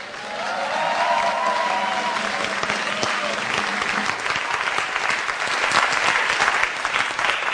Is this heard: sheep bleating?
no